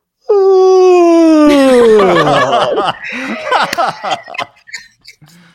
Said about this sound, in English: You heard that yawn, y'all? Y'all heard that yawn? That's good.